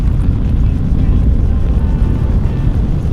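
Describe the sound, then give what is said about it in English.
A loud, steady, low-pitched roar of space plane engines at launch as the plane shoots up into the sky, heavy rumbling bass that stays constant throughout without pause, overwhelming. “The engines are so loud, I can't hear anything else, except for the very faint strains of galaxy vibes coming from Hadfield.”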